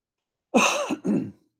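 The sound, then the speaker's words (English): A person coughs and clears their throat in two quick, harsh bursts, the second slightly shorter, with silence before and after and no talking. “Sorry for the coughing this morning.”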